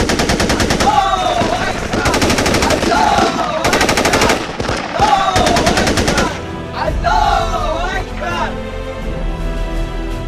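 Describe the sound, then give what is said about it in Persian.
Machine gun fire from a fighter besieged at night, holding off the enemy, rattles in rapid, loud volleys of sharp bursts while a voice talks over it, then the shooting thins out and becomes sparser near the end. “علیرضا اون شب شاهکار کرد، تقریباً با هر گلوله 1 نفر رو از پا در می آورد.”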